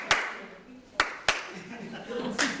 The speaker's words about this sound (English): On time here, on time. When I clap once, you clap once. Good. When I clap twice, you don't clap.